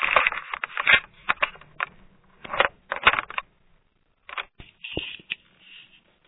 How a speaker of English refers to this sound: And then just a quick reminder for folks that somebody's like kind of rustling around quite a bit.